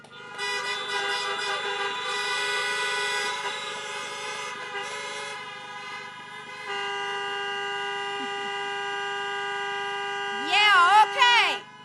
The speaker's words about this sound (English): Honk it up for them, please.